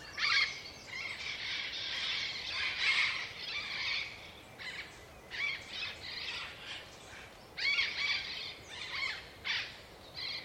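A flock of parrots leaving their nests for the day, flying in pairs, squawks in harsh, overlapping bursts, some calls louder than others, keeping up a raucous, uneven chorus throughout with no one speaking.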